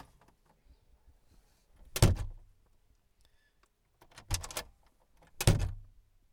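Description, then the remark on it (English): A door is shut three times from inside a very tight space to test a microphone's limiter. Each closing is a loud, boomy thud, separated by brief quiet pauses with no talking. “close that door a little better.”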